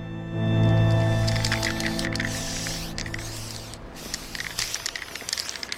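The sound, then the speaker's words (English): An aerosol spray paint can hisses in steady bursts, fairly loud, with a low hum underneath, then short sputtering sprays toward the end, as graffiti is sprayed on the wall of a shop. “Gadget, Meggie and Banjo spray misspelled graffiti on the wall of the shop Sean was banned from”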